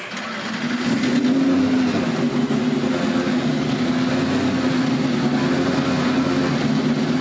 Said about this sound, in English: The field of 14 roars to life here at the Indianapolis Motor Speedway.